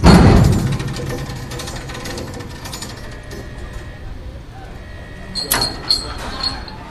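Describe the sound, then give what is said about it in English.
A car deck elevator carrying kids down to the car deck runs with a steady mechanical rumble and hum after a loud opening clank, followed near the end by a few sharp metallic knocks and rattles. “When the kids ride down on the car deck elevator right here”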